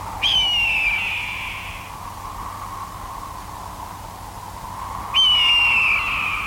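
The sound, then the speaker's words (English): A hawk gives two long, harsh, downward-sliding screeches a few seconds apart, loud, over a steady airy hiss with no one talking, at the opening of a film. “First, just with the tiny aside, that this movie opens with an unironic hawk squawking.”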